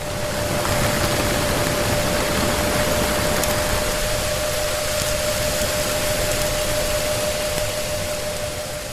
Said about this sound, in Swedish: För ljud färdas långt under vattenytan. Så här låter det till exempel när en motorbåt passerar uppe på ytan över 1 mil ovanför hydrofonen.